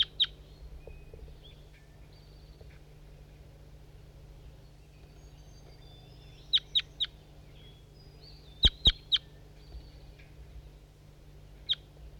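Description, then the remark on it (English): A bird, identified as bird 5-3, gives sharp, high chirping calls in short bursts of two or three, spaced out over a steady low hum, with brief pauses of near quiet in between. “These are the calls of bird 5-3.”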